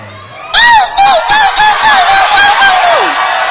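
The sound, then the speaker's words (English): After a brief hush, an audience bursts into loud, sustained screaming, high shrill voices wavering and pulsing together for about three seconds before starting to taper off. “Tell your neighbor, there is no shame at all if you are tired. You may scream.”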